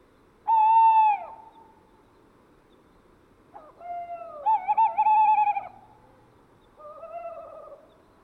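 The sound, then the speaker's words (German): Tawny owls calling back and forth in courtship: a loud, wavering hoot from a male, then quavering trills and a fainter, higher, squeaky answering call from a female at a distance, with quiet night air between. “Er hat einen koketten Dialog mit einem weiblichen Kauz begonnen, der aus der Ferne mit einer höheren, quietschenden Stimme antwortet.”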